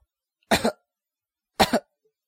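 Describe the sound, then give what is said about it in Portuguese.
A woman, one of a group of fans gathered with a celebrity in Brazil, coughs twice, about a second apart, each cough a quick, fairly sharp double burst, with silence around them and no talking. “Aí uma tossiu.”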